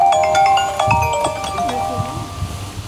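A mobile phone rings with a bright, melodic electronic tone that repeats quickly, while a faint voice murmurs underneath.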